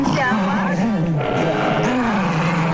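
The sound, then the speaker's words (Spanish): A dog called Gar in Chile, helped by its owner, makes drawn-out, strangely human-like vocal sounds, a loud continuous moaning voice whose pitch wavers, dips, then rises again in a second swelling phrase. “El Gar, que emite sonidos casi humanos, ayudado por su amo, se convirtió en la atracción del barrio y en el foco de los comentarios de la prensa chilena.”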